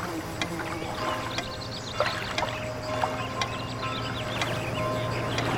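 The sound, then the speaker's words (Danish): Water ripples and trickles steadily and continuously, with bright little bubbling splashes and droplet clicks scattered throughout, even in loudness, with no voices. “Og hvis din opmærksomhed vandrer, refokuser da din opmærksomhed tilbage på vandets rislen, så hurtigt som du kan.”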